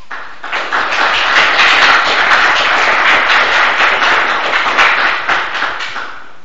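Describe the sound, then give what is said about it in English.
A crowd applauds steadily for several seconds at a Socratic Club event, after the introduction of a talk on religion in the 2008 presidential election. A dense patter of many hands clapping at an even loudness begins to thin slightly toward the end, with no one speaking. “We usually don't applaud at the Socratic Club events, but we'll let it go.”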